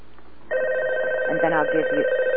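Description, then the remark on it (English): A phone rings loudly for an incoming call to a live radio call-in show, a steady electronic tone that begins abruptly after a brief moment of quiet background and continues to the end, with faint voices underneath. “We'll take this phone call.”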